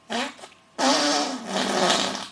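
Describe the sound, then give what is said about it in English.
A hand-made fart imitation: a short buzzy burst, a brief pause, then a longer, louder flapping blast lasting over a second, fairly loud with no talking. “And that wasn't actually me farting. That was just me demonstrating it by using my hands.”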